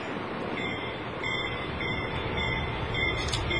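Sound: train running on rails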